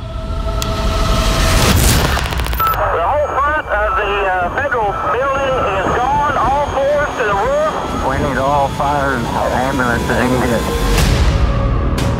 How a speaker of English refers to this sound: You probably heard it and felt it, an explosion of some kind downtown. We've never had a bomb like this in the United States.